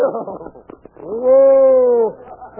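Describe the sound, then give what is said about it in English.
Brief talk gives way to a single loud, drawn-out whinny from a snow-white horse lasting about a second, a steady tonal call that swells and then fades out. “Now I mount my snow white charger.”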